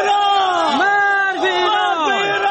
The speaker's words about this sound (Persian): شعارهای که علیه ایران سر داده می شود از سوی باشندگان ولسوالی سرحدی کوهستان ولایت هرات است. از محلی که این شعارها بلند می شود تا نقطه سرحدی میان افغانستان و ایران تقریبا 20 کیلومتر فاصله دارد.